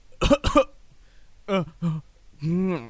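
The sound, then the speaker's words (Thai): Two quick, sharp sneezes burst out close up, followed by three more voiced, exaggerated sneezing sounds, like a voice acting out a fit of repeated sneezes. “ท่านราชินีผมหยุดจามไม่ได้เลยอะ”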